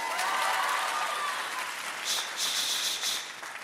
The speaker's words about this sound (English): Now you clap.